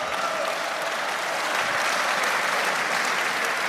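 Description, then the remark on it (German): Steady, dense applause from many hands, a continuous bright crackle that holds at an even loudness throughout with no voices standing out. “Das ist der Applaus der Verzweifelten, das weißt du.”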